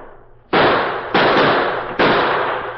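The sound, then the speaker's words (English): Three loud, sharp shots from Kit Carson's musket and the Lone Ranger's gunfire ring out at uneven intervals, each followed by a long echoing decay that overlaps the next, with no voices. “The addition of Kit Carson's musket to the Lone Ranger's well-placed gunfire soon had a telling effect.”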